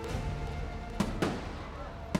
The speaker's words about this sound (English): She could hear the thunderclap of fireworks, a sound she hadn't heard since she attended the festival as a child with her parents.